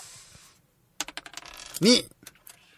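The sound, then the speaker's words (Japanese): Dice being rolled in a game: a quick clatter of small hard objects tumbling and bouncing on a surface, a rapid burst of clicks that builds to a brief louder rattle, with a short voiced sound near the end. “はい、じゃあサイコロ。いきまーす。”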